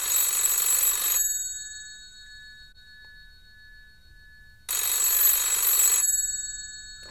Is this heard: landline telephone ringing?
yes